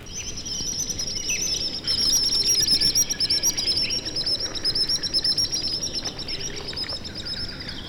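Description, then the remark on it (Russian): Common sandpipers give piercing, high whistles in quick repeated bursts as they fly low over the water, a busy stream of shrill calls, fairly loud over a soft background hiss. “Пронзительным свистом над самой водой проносятся кулики-перевозчики.”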